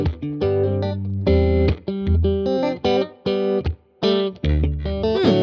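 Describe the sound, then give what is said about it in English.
An electric guitar plugged directly into an audio interface, with added distortion, chorus and EQ effects, plays a loud, choppy run of chords and notes with a shimmering chorus sound, with short gaps between phrases and no voices. “But then he adds a ton of effects. A little bit of distortion, a little bit of chorus, a little bit of EQ, and it gets more interesting.”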